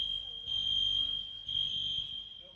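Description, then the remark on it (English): A fire alarm, set off by an accidental pull with no actual fire, blares continuously with a steady high-pitched electronic tone, pulsing slightly in loudness, while low murmuring voices and room noise sit faintly underneath. “Those of you on YouTube, the fire alarm's going off in here.”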